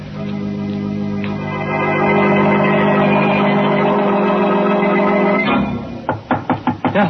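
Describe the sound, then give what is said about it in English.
A sustained, humming musical drone fades out, and then a quick series of about six sharp, loud knocks raps on an alley door in close succession, from someone out in the rain. “Well, that's the alley door. Somebody's there.”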